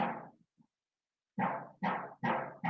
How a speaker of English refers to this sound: So for our listeners, she's getting a radiator replaced in her building. So the little bit of banging in the background is all right.